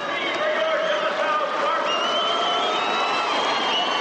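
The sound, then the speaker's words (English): A large crowd of fans at a high school football national championship game between De La Salle and Poly cheers and yells madly without pause, a steady, loud roar of many voices with high whoops and whistle-like cries rising over the din. “While the fans cheer madly, the Spartans emerge from their locker room in silence.”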